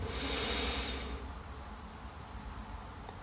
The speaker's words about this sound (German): Wir nehmen den ersten tiefen Atemzug und atmen ein